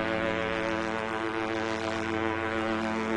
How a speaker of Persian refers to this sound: صدای سوت کشتی حرفای ملوان رو قطع کرد.